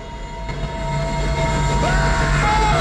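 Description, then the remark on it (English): A steam train approaches along the tracks, growing louder with a low mechanical drone and a shrill whistle-like tone rising near the end. No one speaks. “They look down the tracks and see a steam train heading their way.”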